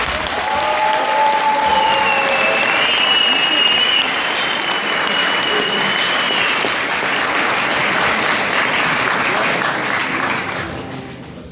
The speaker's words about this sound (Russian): Спасибо им большое и бурные аплодисменты.